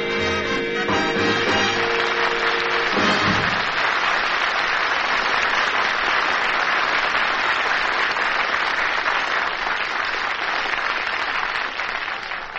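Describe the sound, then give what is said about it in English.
Music winds down over the first few seconds, then loud, dense applause from a big crowd fills the rest, a steady wash of many hands clapping with no talking. “Look at that crowd, you big crowd you just drew.”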